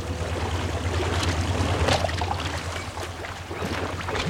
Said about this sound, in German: Justus steuerte das Boot, schaltete den Motor aus und ließ es die letzten Meter an den Holzsteg herantreiben.